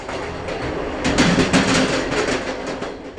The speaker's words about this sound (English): The family's home village, Haobi, is about 15 hours by train from Beijing. It is a slow train,